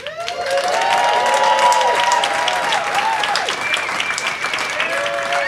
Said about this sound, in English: Totally unprompted applause